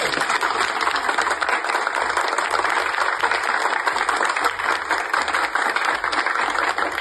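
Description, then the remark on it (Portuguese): A sustained round of applause from many hands, a dense crackling wash of clapping that stays steady and loud for about seven seconds without pause. “Eu acho que é digno de todo mundo uma salva de palmas.”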